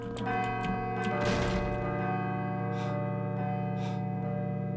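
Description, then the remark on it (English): A bell rings steadily, its sustained metallic tones humming throughout, with a louder clanging strike early on and a few soft hissing swells later. “I should let the bell finish ringing first.”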